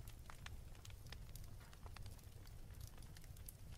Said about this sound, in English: When you enter the bedroom, there is a warm glow from the oil lamp, and a gentle fire is crackling.